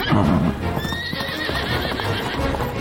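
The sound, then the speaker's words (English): A horse named Butterscotch lets out a loud, wavering neigh, followed by a quick run of hoofbeats that carries on steadily as it gallops away across the countryside. “Butterscotch gallops off across the countryside.”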